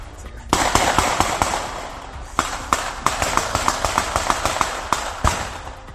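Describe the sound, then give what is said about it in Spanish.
Rapid bursts of gunfire crackle in irregular volleys, sharp cracks stacking over a noisy, hissing background, with brief pauses between clusters of shots, from a morning shootout between two feuding families in the El Vacie shanty settlement, recorded by a witness in the cemetery. “Este que van a escuchar es el sonido real de los disparos recogido por un testigo que se encontraba en el cementerio en aquel momento.”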